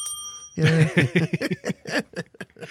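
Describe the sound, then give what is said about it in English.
A bright bell rings out with sustained, shimmering tones that linger throughout, quickly joined by a busy, wavering vocal-like sound layered over the fading ring. “I got a mold turned LSD bell too.”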